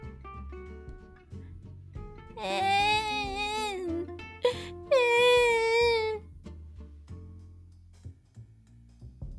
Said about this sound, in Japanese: そしてまた歩いていくと、今度は子供の泣き声が聞こえました。